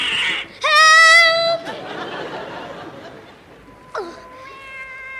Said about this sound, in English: Oh. It's a cat. It's only a cat.